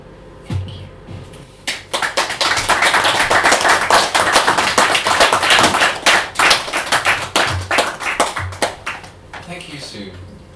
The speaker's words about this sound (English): We'll have another big round of applause for everyone on the open mic.